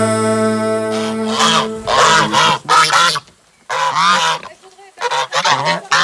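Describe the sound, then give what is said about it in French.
Loud goose honking in a run of harsh, nasal calls, several in quick succession, broken by a brief pause before another burst. No one speaks. “T'as vu que cochon et oie adorent.”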